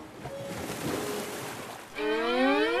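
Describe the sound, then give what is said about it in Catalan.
Wind-driven ocean waves wash steadily onto sand with a broad, hissing surge for a couple of seconds, then a sustained, slightly rising tonal cry joins over the surf near the end. “L'aigua forma onades que viatgen fins a la sorra.”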